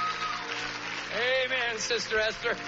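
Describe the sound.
An audience in a church cheering, with several voices shouting and whooping together in rising and falling pitches, swelling louder midway and continuing in short bursts over a steady low hum.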